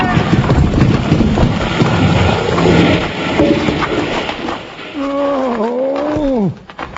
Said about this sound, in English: While Bill Hickok and Jingles, looking for the robber on the carnival lot, suddenly find the big top crashing down on top of them. They start to run, but too late.